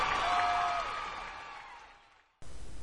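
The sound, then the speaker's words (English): A crowd cheers and applauds loudly for a leader giving a speech, a dense wash of voices and clapping that gradually fades over a couple of seconds before cutting off abruptly into a different background. “Yes, cheer for me. You're a great leader.”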